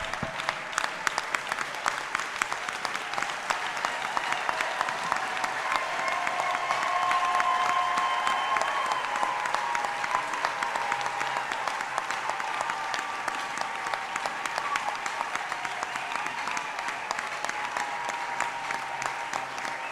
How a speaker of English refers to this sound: Let's just stand up and give a clap offering to the le Lord. Levons-nous et donnons des acclamations d'offrande au Seigneur.